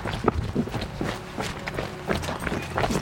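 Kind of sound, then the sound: human body sound, footsteps of people jogging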